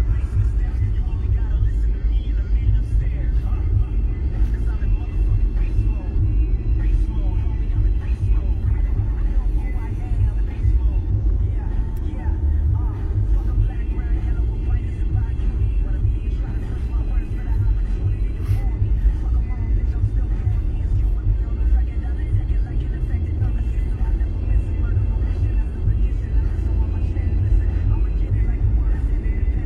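Steady low rumble of a car interior while driving, a constant droning road and engine noise filling the whole clip at a moderate, unchanging level.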